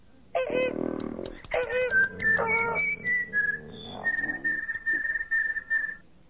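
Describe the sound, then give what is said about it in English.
A robotic droid standing in a corner warbles and whistles in quick electronic chirps and sliding tones, mixed with buzzy burbles, imitating a recording; fairly loud with no talking. “R2 stood in a corner, warbling what seemed to be a perfect imitation of Prime Minister Capterson's recording”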